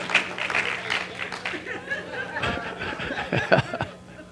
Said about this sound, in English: Come on, we're getting better clap than that. So y'all scared to clap?